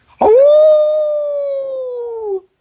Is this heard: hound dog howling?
yes